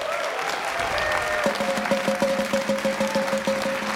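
An audience applauds steadily for the full four seconds, a dense, even wash of clapping. Partway through, a regular, repeating pitched note pattern begins to sound beneath it.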